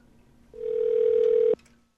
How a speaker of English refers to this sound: Okay, so I'm just going to dial 0 and see if we get a New York telephone operator. Just don't try and get the long distance operator.